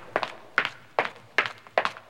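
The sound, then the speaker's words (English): Footsteps of a woman hobbling home on pavement at 3 a.m., five crisp steps at a steady walking pace, each with a quick heel-then-toe double tap, clear against a quiet background with no voices. “breathing in time to the sounds of her footsteps on the pavement.”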